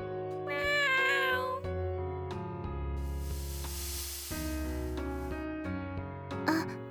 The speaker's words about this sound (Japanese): 猫。